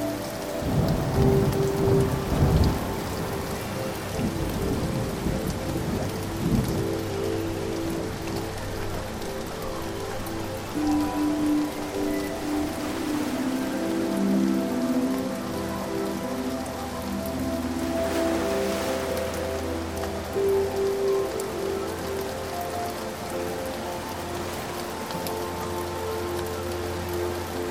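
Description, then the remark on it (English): Steady heavy rain pours down, with low rumbles of thunder rolling in from a distance and a sharper crack near the start; no voices. “Sitting at the table, watching the waves crash and the lightning in the distance”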